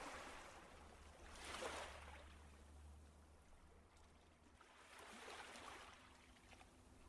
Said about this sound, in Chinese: 平静的海浪拍打着海滩，彰显了大海和陆地的和谐统一。